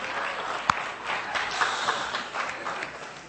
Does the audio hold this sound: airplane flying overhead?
no